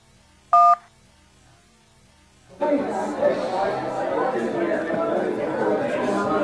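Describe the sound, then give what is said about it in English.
A single short, clear telephone keypad beep sounds near the start as 1 is pressed to play the next voicemail, followed by a brief pause and then a steady wash of crowd chatter from a voicemail recorded in a busy pub. “If you want to hear the next voicemail, please press the 1.”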